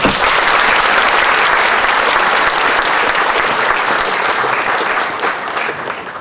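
An audience claps in sustained, dense applause, a loud continuous patter of many hands that holds steady for several seconds before easing slightly toward the end.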